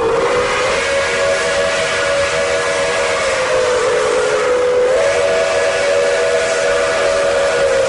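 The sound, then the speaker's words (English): A steam locomotive whistle blows in one long, sustained, slightly wavering tone over a loud, steady hiss of escaping steam, continuous for the whole stretch with no talking. “The mighty steam locomotives that conquered the continent are history.”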